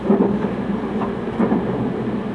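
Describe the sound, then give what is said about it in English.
A steady, low rumble of a train running on rails as it approaches Higashi-Iwatsuki station fills the whole stretch, fairly loud, with a few faint rhythmic thumps rising out of the continuous roar. No one speaks. “Ladies and gentlemen, this train will be arriving shortly at 東岩槻.”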